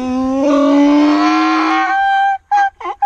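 A donkey brays loudly, one long drawn-out harmonic call that then breaks into a few short, choppy gasping bursts at the end, with no voices.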